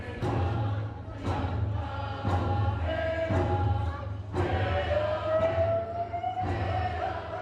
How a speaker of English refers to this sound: The last day of Elders and Youth Conference was a joyous one. The sound of laughter, stomping, and clapping could be heard from the third floor to the first in the Domain Center.